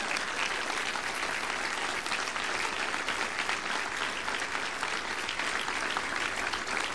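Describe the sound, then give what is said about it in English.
Sustained applause from a large audience at a campaign event, given for Ted Sorensen; a dense, steady wash of clapping that stays loud and even for the full stretch without letting up. “So please give Ted Sorensen a big round of applause.”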